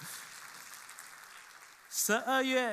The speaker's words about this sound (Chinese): 而且呢对呀，我们给大家掌声好不好。